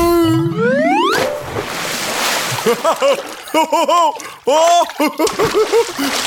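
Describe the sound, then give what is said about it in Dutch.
A rising whistle-like tone builds up, then a loud splash bursts into bath water as someone in big pink swim trunks does a cannonball jump into the bath, followed by lively voices calling out in bursts. “Komt-ie! Bommetje!”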